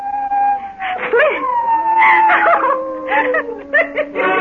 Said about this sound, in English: Now, who knows why the dogs are making like banshees tonight? They're dogs, not people.